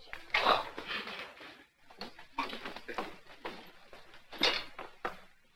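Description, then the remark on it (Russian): An apartment door is unlatched and pulled open by a woman, with a series of sharp clacks and rattling knocks of the handle and lock spread over several seconds. “Жена соседа открывает дверь.”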